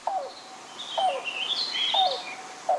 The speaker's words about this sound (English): The call of the yellow-billed cuckoo may sound a bit like a car engine struggling to turn over before revving to life. But for generations and generations, people recognize these rattling gulps and hollow hoots as a precursor to something else. Rain.